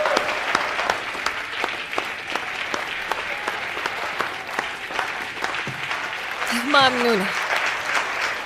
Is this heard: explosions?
no